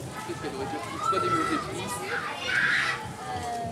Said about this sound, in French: Le petit garçon qui crie là, tu l'as entendu ?